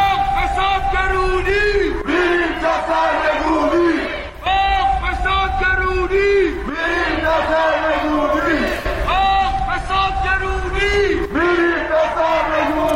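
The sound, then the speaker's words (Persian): A large crowd of protesters at a night protest over poverty and corruption chants slogans calling for overthrow, in loud, rhythmic unison, voices rising and falling in repeated bursts with constant background noise and no break in the shouting. “در اعتراضات دیشب توی فریادهای مردم نتیجه فقر و فسادی که کشور رو در بر گرفته چیزی جز سرنگونی نبود.”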